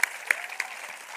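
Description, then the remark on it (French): An audience at a French-Spanish bilingual church service applauds together, applauding in advance what God will do: a steady wash of many hands clapping with a few sharper, louder claps standing out at regular intervals. “Quiero aplaudir de antemano lo que el Señor va a hacer.”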